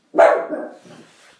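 A dog gives one sharp, loud bark that trails off, followed by a softer, rougher bark or grumble, with no talking; the dogs are barking at a DHL delivery man.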